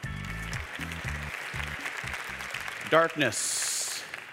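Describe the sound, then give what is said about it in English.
A Northview church audience claps steadily in the dark to welcome a guest preacher, the applause a dense, continuous patter over low rhythmic bass tones, ending in a brief rising tone and a hissing wash. “Makes you clap longer than you should have because you're waiting for the lights to come on.”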